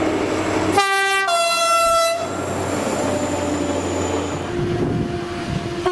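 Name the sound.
train passing on rails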